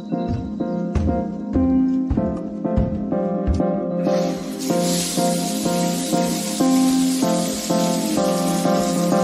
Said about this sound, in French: C'est le moment de prendre une douche froide